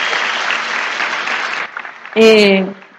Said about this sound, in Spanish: Los que están aquí por primera vez en su primer seminario, un aplauso para ellos de nuevo. Los felicito.